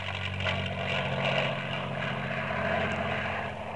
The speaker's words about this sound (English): There goes a faster airplane. They make so much noise.